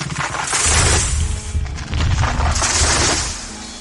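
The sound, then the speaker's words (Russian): Two heavy, booming crashes follow one another as two trees growing close together topple and slam into the ground, pulled down by Krishna tugging a huge wooden mortar stuck between their trunks, with deep rumble and splintering noise between them. Loud, no voices. “Кришна тянул и тянул ее до тех пор, пока оба дерева не повалились с грохотом на землю.”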